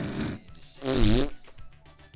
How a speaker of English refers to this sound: No, you can't just fart. We're debating. It's serious.